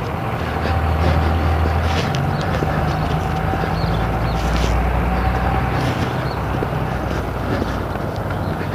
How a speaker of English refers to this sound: There's the school bus again.